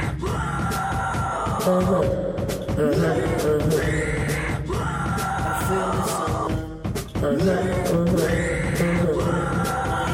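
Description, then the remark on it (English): Harsh, strained screamed vocals, the artist's own voice set in counterpoint, ride over a loud, dense music track, the shrill wavering cries returning in a repeating pattern about every four seconds, somewhere between a yell and a retch. “There's like these other weird vocal sounds that are kind of in counterpoint.”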